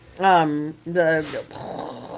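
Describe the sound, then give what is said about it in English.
A person vocally imitates a rocket as a hint to the film Hidden Figures: two loud, buzzy voiced rumbles followed by a breathy, hissing whoosh that trails off more quietly. “I knocked the rocket noise first.”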